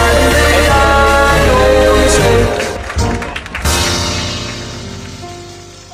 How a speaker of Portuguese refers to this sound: Então, desce a porta da garagem.